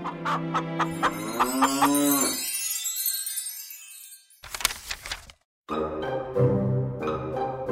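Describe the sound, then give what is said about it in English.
A cow moos loudly, two long drawn-out lows separated by a short pause, with a brief jingling, bell-like tinkle in between. No one speaks. “Jack's family had a bag of gold, a golden hen, a golden harp, and a cow.”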